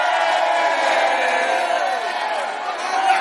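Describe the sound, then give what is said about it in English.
A church audience shouts and cheers together in a dense, continuous roar of many voices, loud and sustained without a break for several seconds. “But you can hear from the shouts that you are not alone.”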